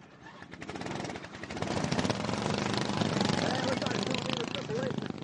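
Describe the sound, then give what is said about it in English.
Several small racing lawn mower engines roar together in a loud, rattling, sputtering buzz that builds and holds steady, with faint voices mixed underneath, as drivers yank the pull cords at the Le Mans-style start of a 20-lap feature race on a dirt track. “Drivers in boots, long pants, gloves, and full-face helmets sprint across the track, jump on their mowers, and pray as they yank the cords.”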